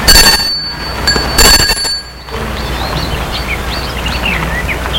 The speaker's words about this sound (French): Ils vont devant l'entrée de la maison, qui a un petit perron. Et sonne à la porte d'entrée.